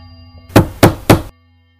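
knocking on a door

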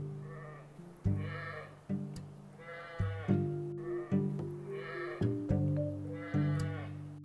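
sheep bleating

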